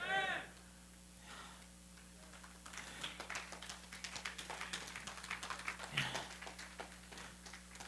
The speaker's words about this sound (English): I think y'all are clapping because you're glad I'm about to shut up.